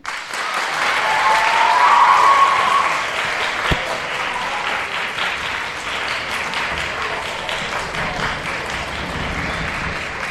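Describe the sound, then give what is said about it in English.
A crowd applauds and cheers loudly and steadily for the Hopkins Junior High School Advanced Orchestra, with a brief cheer rising near the start before the clapping settles into a sustained, even roar. “Well, you certainly have a big cheering section here.”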